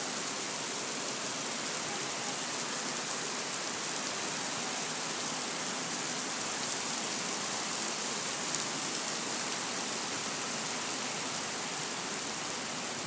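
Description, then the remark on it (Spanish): A heavy, steady downpour of rain, a dense continuous hiss of water pouring down, unchanging in intensity throughout with no voices. “pues esta es la manta de agua que está cayendo en este momento aquí.”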